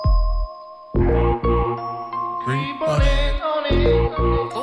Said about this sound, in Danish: God ringetone. Ja, det er faktisk en fin ringetone.